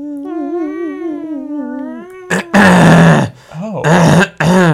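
A wavering, drawn-out vocal tone gives way to several loud, raspy, forceful bursts of throat clearing, with short pauses between the rough hacking pushes.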